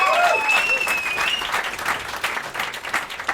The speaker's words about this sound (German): Kleiner Applaus für den Herrn für den Redaktionsplan. Bitte.